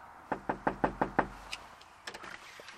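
A reporter knocks on a neighbour's front door: a rapid, evenly spaced burst of six firm, fairly loud knocks, followed by a few faint clicks and shuffling sounds before quiet.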